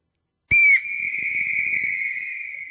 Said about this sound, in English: We're going to blow the whistle on the wolf. We're going to, everybody, get your whistle out. Get your whistle out. Now, one time here we go.